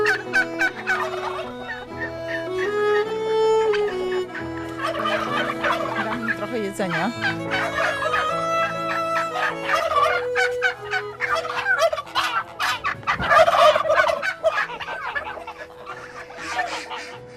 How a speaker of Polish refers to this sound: Kury, kaczki, gęsi, indyki, perliczki. Tutaj słychać panią indyczkę.